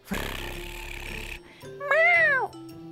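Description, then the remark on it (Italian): A cat gives a single clear, drawn-out meow, rising then falling in pitch, fairly loud, after a second or so of soft noisy rustling. “Le mani possono accarezzare un gatto.”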